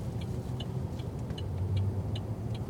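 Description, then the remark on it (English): Steady low rumble of heavy car traffic rolling past a traffic light, with engine drone throughout and faint repeated high ticking chirps every half second or so, no voices. “A lot of traffic. Look at all these cars.”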